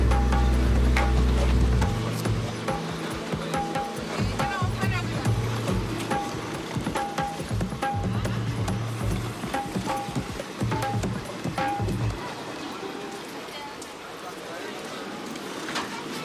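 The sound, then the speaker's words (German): Steady rushing water, a broad continuous wash of noise, runs beneath music with a deep bass line and bright sustained tones, lingering on as the bass drops out near the end. “So, und am Ende hören wir wieder das Wasserrauschen.”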